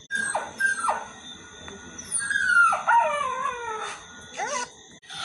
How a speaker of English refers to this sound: Such a noisy animal. Why do you have to be making so much noise? Do you hear me making any noise and I'm still in pain? Be quiet, you mutt.